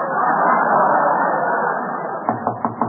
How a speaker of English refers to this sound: It's only the Duchess of Uppington. Duchess? Yeah. That's one of her dukes banging on the door.